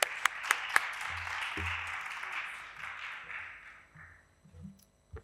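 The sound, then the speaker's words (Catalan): An audience breaks into applause, a few sharp claps at the start giving way to dense, steady clapping that gradually thins and fades out after about four seconds. “Llavors, abans de començar, sisplau, un aplaudiment.”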